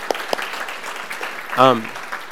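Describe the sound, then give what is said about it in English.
A church audience applauds last week's preacher with steady, dense clapping that fills the whole clip, and a single short voiced cheer rises briefly above the clapping partway through. “We can clap for”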